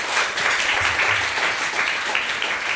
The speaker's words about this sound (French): Je voudrais également saluer la performance des trois signeuses qui sont dans la salle. Merci de les applaudir.